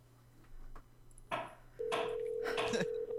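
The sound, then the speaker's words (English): A few handling clicks and rustles, then the steady electronic ringback tone of an outgoing phone call begins and holds through the end, fairly loud, with no one talking. “Hopefully this works. Here we go. It's ringing.”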